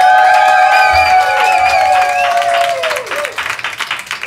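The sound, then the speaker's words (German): A live audience in a full house applauds and cheers loudly, with sustained whistles and whoops over dense clapping that gradually thins out toward the end. “Ein vollständiger Satz und der erste Applaus”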